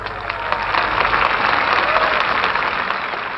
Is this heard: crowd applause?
yes